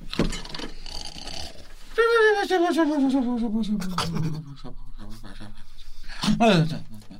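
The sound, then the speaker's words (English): A voice imitates a sleep fart, a long, drawn-out buzzy voiced tone sliding steadily down in pitch for about three seconds, followed by a shorter falling burst. “That's a sleep fart.”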